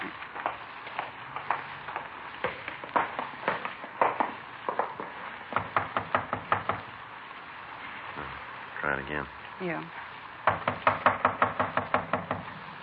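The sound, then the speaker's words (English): Police officers knock repeatedly on a door: sharp knocks in bursts of rapid raps, loud, with short pauses between rounds and a brief spoken exchange in the middle. “Come on, open up in there. We know you're in there. Come on. Open the door.”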